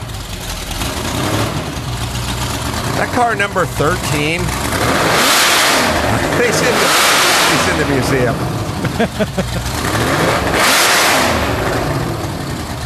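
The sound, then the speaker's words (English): A Shelby Daytona race car engine fires up and revs hard in repeated loud bursts, roaring and echoing inside a museum while a man talks over it. “He's firing up the Daytona.”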